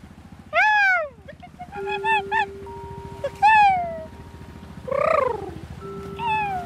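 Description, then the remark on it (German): Seagulls calling in a series of loud, high, arching cries, some in quick clusters, over a steady low rumble and a constant humming tone, as a group of gulls follows the people recording and is called by them. “Eine Gruppe Möwen fliegt uns hinterher. Wir rufen sie.”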